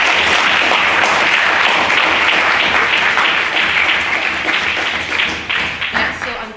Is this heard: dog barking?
no